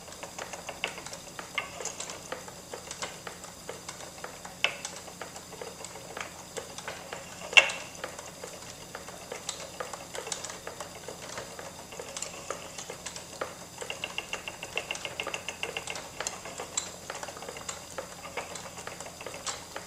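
A steady mechanical whirring and soft clattering of a spinning wheel winding thread from flax or wool, with small irregular clicks and taps throughout, fairly quiet, with no voices.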